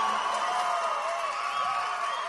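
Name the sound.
audience applause and cheering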